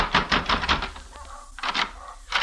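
Heavy fists pound on Sandy McQuill's door, two flights up in a third-rate hotel near the Hassan Bazaar, in a quick burst of four loud knocks, then a pause before a few more hard, insistent thumps.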